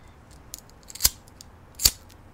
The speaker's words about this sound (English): Here, let me turn on this fireplace.